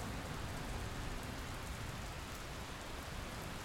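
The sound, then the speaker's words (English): Heavy storm rain pours down in a steady, dense hiss that stays loud and unbroken from start to finish, with no voices or other distinct sounds. “The storm breaks as suddenly as it came upon us.”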